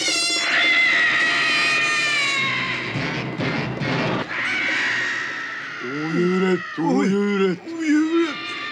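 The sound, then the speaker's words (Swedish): A loud, drawn-out booming call of bitterns imitated by a voice: a harsh, wavering howl that falls into several deep, swooping moans with short pauses between them. “Ni rördromar kanske är små fåglar. Men vi har mycket starka röster.”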